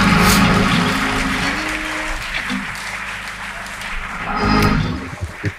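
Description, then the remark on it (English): A church audience claps hands in sustained applause as a hand clap of praise to the Lord, a dense, steady patter of many claps that swells at the start and again near the end before thinning out, with no one speaking. “Now put your hands together and give the Lord a hand clap of praise.”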